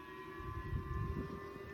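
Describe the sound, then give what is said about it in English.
A siren in South Korea wails steadily, holding a constant pitch throughout, with a low rumbling background beneath it, moderately loud. “Sirens going off in South Korea.”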